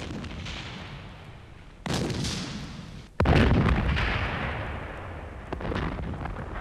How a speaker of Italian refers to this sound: Lo scoppio delle mine.